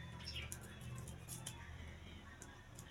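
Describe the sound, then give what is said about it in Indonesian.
Scissors snip through sausage casing several times in short, crisp, irregular cuts, quiet, over a low steady background hum. “Kita gunting lagi.”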